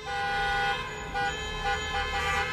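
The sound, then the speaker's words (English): Several car horns honk continuously and overlap outside, sounded by protesters demonstrating against school and business closures, sustained blaring tones layered over a low rumble of traffic outdoors, with no speech. “While the governor spoke, the sound of car horns could be heard outside as protesters, tired of the school and business closures, held a demonstration, saying they're being hurt economically.”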